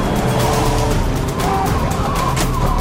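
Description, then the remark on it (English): A convoy of Humvees arrives during a heavy snowstorm, rumbling in loud, engines droning steadily with gritty tire and road noise layered over a constant low roar throughout. “It was still at the heart of the storm when we arrived in a convoy of Humvees.”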